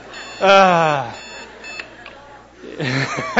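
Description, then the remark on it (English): An alarm clock beeps steadily in the background while a voice lets out drawn-out, wordless vocal sounds over it. “That's not an alarm. That's the battle cry for our flesh. That's the noise that awakens our flesh to start fighting against our spirit.”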